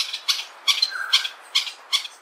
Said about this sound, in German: So klingt es, wenn der Greater Honey Guide, der große Honiganzeiger, auf sich aufmerksam macht.